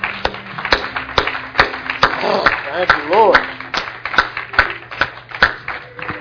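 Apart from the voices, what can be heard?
audience clapping hands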